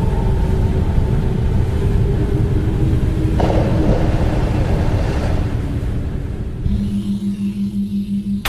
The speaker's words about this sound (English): I heard a splash. Outside. Oh, that's probably nothing. It was pretty loud. Sounded like something big. They throw things over the side of ships all the time.